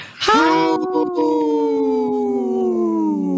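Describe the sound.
A person imitates a wolf howl: one long, sustained voiced tone with rich harmonics that rises sharply at the start, then holds steady and slowly glides downward over about three seconds.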